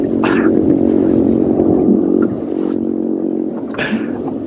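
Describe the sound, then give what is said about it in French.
A low, muffled grunting from a grunt fish (grogneur) underwater, made by its abdominal muscles pressing on its swim bladder: a continuous buzzing drone with a rough pulsed texture, broken by two brief brighter bursts; no voices. “on a le bruit justement du grogneur”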